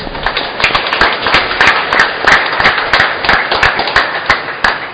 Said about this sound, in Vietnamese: Cộng đoàn chúng ta cảm ơn ban kèn bằng một tràng vỗ tay thật lớn.